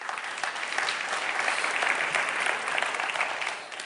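At a church service, a crowd claps steadily for about four seconds for a child volunteer coming forward, a dense, even wash of applause that holds at a fairly loud level and tapers slightly at the end, with no voices.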